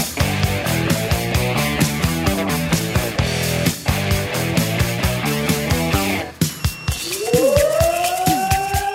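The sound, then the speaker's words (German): A rhythmic musical passage with steady pulsing notes breaks off, and a fire alarm siren calling out the Bevern and Essen-Oldenburg fire brigades in the district of Cloppenburg begins winding up, its loud wailing tone rising steadily in pitch over the last couple of seconds. “Alarm für die Feuerwehren Bevern und Essen-Oldenburg.”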